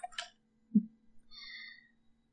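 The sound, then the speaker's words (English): A brief rustle and a soft thud as a phone is put away, followed by a short high-pitched squeak or creak. No one speaks. “And my phone has to go away.”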